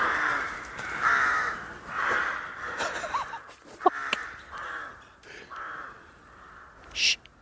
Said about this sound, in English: Tell you what, at night time in the forest, fucking hell, there's so many crows in here. That is legitimately terrifying.